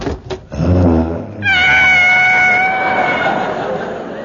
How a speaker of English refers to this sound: He's washing a savage tiger.